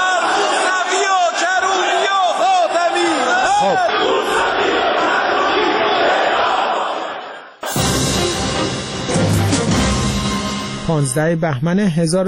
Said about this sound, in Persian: غلامعلی حداد عادل در نطق پیش از دستورش اظهارات تندی را علیه رهبران مخالفان بیان می‌کند و به دنبالش جمع زیادی از نمایندگان حاضر فریاد مرگ بر خاتمی، موسوی و کروبی سر می‌دهند و برخی نیز خواستار اعدام آنها می‌شوند.